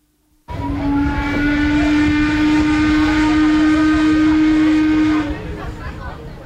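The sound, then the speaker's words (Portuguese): A boat horn sounds one long, steady, loud blast lasting several seconds, with a deep fundamental and stacked harmonics, over outdoor ambient noise. The horn calls passengers to board at the port quay in Lucerne, Switzerland, at 9:15 on a Wednesday morning; the boat is the Uri, on Lake Lucerne (Lake of the Four Cantons). “São 9:15 de uma manhã de quarta-feira e o barco nos chama.”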